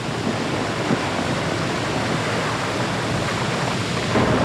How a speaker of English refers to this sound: That's the thunder-like sound you hear above the deafening roar of the water.